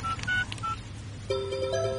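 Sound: phone dialing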